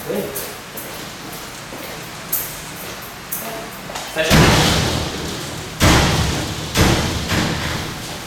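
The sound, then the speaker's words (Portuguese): A door shuts with a loud, heavy slam, followed by two more forceful bangs a second or so apart, with lighter knocks and faint rustling beforehand. “Deixa fechado, então. Obrigado, tchau. Deu pra fechar, tchau?”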